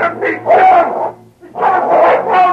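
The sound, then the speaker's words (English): A dog named King snarls and barks ferociously in two long, loud, growling bursts separated by a brief pause, with no other sounds, as it attacks and pins a man to the ground. “You got to call out that dog.”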